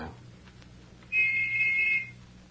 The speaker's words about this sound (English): Well, where do you think maybe other whistle come from? I don't know, Tonto. There are at least a dozen boats tied up down there at the landing.